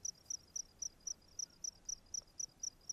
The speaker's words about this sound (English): Here's another dusk where some weeks before I recorded myself playing with the crickets in the space between Mirralinki and Warman.